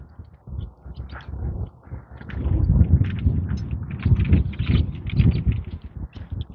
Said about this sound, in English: Sparrows chirping overhead.